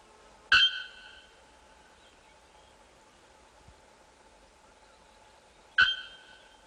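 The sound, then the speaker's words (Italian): Two loud, explosive metallic calls of a bare-throated bellbird (araponga), a South American bird, several seconds apart, each a sharp clanging strike with a brief ringing tail, separated by near silence. “E abbiamo il grido, il canto dell'uccello araponga, anche esso è un uccello del Sud America.”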